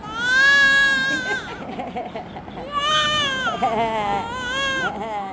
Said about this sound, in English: In this maternity ward, one of two the foundation runs in Karachi, a newborn wails her way into life.